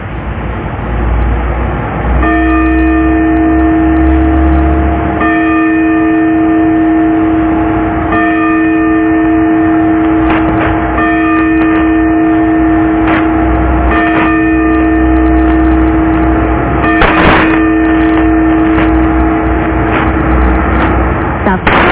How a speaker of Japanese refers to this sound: 時刻は間もなく6時になります。 札幌時計台の鐘が午前6時をお知らせします。